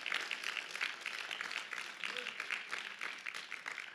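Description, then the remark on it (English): An audience gives a praise clap for the Lord, sustained applause, dense and steady for the full duration, a broad hissy wash of many hands clapping at once with no clear individual rhythm, fairly quiet overall. “Let's give the Lord a great big praise clap.”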